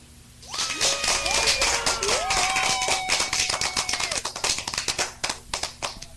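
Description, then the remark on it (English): A burst of rapid hand clapping given to a caller on a radio show, loud and continuous, with whoops and cheering voices gliding over it before the claps thin out toward the end. “Let me give you the clap real quick.”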